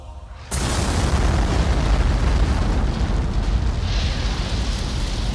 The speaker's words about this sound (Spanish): Ocurrió lo inevitable. Un disparo atravesó el techo y prendió la pólvora.